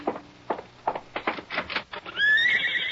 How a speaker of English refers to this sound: Why, yes, that's a horse out there.